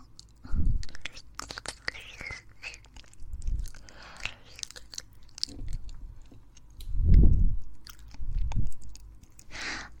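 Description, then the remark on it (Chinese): Wet mouth sounds of fingers chewing and working a tongue in a mouth: soft squelches, smacks and sticky clicks come in irregular bursts, with a few heavier muffled thumps and no speech. “先生用手指不停地嚼我不听话的舌头，真的很喜欢呢。”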